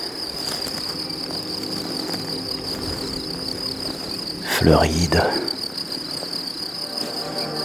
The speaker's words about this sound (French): Voici au centre de la prairie alpine.